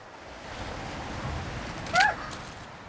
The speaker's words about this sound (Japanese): 波、これが水面が動いてる。